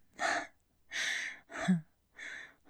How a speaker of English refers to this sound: Gasping for air like a little fish. Poor boy, you really couldn't breathe, could you?